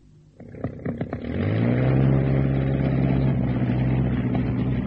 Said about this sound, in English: I can fly a plane. What plane? This one, the Sopwith. It's good enough to get me to the coast.